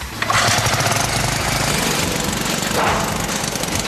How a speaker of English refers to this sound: Bowser's boys prime their engine for speed.